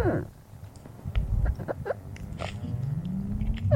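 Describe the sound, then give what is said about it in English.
Antarctic ice melting in the Antarctic summer, heard underwater off the coast of Antarctica: a busy scatter of sharp crackles, pops and brief squeaky chirps over a deep, steady rumble, with a low rising groan toward the end. “This is the sound of the ice melting in the Antarctic summer.”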